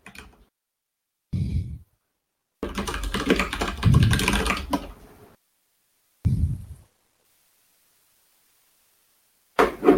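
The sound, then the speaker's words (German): Computer keyboard typing during an online call comes in short separate bursts with a longer, busier flurry of clacking keys in the middle, and gaps of silence between them. “Du kannst auch reden, wir hören dich tippen.”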